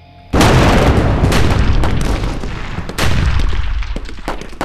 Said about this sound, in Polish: Nie, ten wystrzał nie robi na mnie wrażenia.